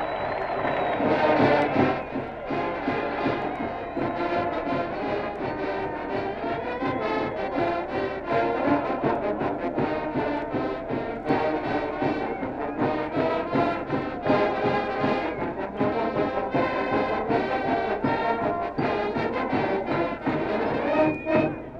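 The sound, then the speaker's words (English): A large stadium crowd at an American college football game roars and cheers after an Oregon State Beavers touchdown, a dive from the two-yard line that puts them ahead 13 to nothing. It is a dense, steady wall of voices that stays loud and unbroken for about twenty seconds, with no clear talk on top. “Listen to the crowd.”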